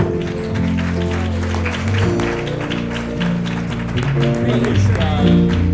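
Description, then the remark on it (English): An audience at a service claps their hands for the Lord in a steady, lively burst, the crisp claps blending over sustained music and indistinct voices for several seconds. “Let's give the Lord another hand clap.”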